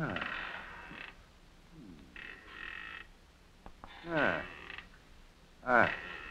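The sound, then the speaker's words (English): A grand wooden rocking chair creaks as someone sits in it, slow repeated groans, several drawn-out squeaks rising and falling with each rock, a couple sharper and louder than the rest. “Here, sit down in that grand rocking chair there,”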